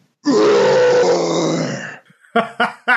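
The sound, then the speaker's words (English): A man's voice imitates a lion's roar, the lion noise he makes for his 2-year-old son: one long, loud, rough growling roar lasting nearly two seconds, then a short pause and three quick breathy grunts or laughs. “I have a 2-year-old son who loves it when I make a lion noise.”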